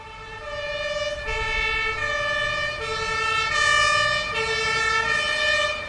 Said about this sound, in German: Der Krankenwagen fuhr los, schaltete die Sirene ein und fuhr um die Ecke.